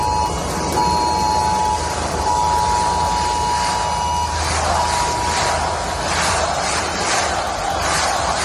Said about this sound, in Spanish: La alarma ha vuelto a sonar en recuerdo a las 229 víctimas mortales de la Dana. Lo ha hecho durante la manifestación de este fin de semana en Valencia y, como escuchábamos, los asistentes pedían la dimisión de Carlos Mazón.